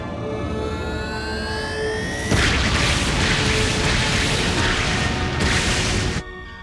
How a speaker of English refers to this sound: detecting a series of antimatter explosions. In proximity to what? No ships, no planets, nothing.